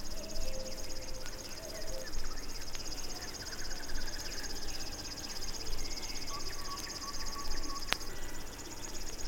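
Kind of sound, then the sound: bird, river warbler song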